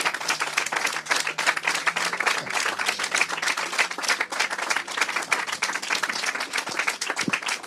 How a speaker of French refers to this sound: Alors, on profite de ces applaudissements pour vous faire souffler un coup